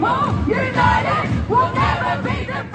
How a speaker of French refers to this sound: Les manifestations sont toujours aussi massives, comme on a pu le voir la semaine dernière encore à Melbourne, à Washington, à Manchester ou à Karachi au Pakistan, où la foule chantait « Je suis pakistanaise, je me lève avec la Palestine ».